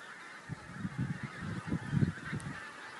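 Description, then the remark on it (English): A flock of geese in the field next door honks repeatedly in quick, overlapping calls, fairly quiet, over a steady outdoor hiss; the geese are out in wet weather. “Oh, geese.”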